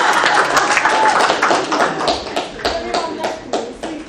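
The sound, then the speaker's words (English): A crowd claps in a dense, steady burst lasting several seconds, many sharp hand claps blending together, with some voices mixed in underneath; an audience's round of applause for one of its members as she moves seat. “Come on, round of applause.”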